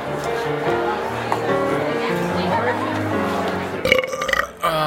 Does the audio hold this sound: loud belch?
yes